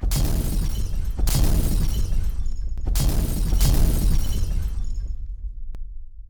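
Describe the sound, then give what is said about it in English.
Four hand grenades exploding: a rapid series of loud, booming blasts, each followed by crackling, shattering debris and deep rumble, which dies away after about five seconds. No one speaks. “Four hand grenades.”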